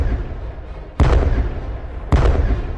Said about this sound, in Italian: Soult fece iniziare ufficialmente la battaglia con i canonici tre colpi di cannone